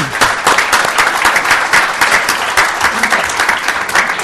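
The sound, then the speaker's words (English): Sustained applause from a sizable audience thanking a speaker, dense and steady clapping at a fairly loud level for several seconds, with no one speaking over it. “And another round of applause.”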